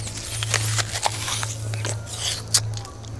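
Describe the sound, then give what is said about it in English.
Crisp crunches of someone biting into and chewing a fresh apple, a string of wet snaps over a few seconds with a steady low hum underneath and no talking. “An apple? And it's fresh.”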